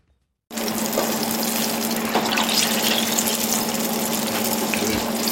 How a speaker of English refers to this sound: The eggplant strips are sizzling in oil at Li Ho Fook, a modern Chinese restaurant in Melbourne.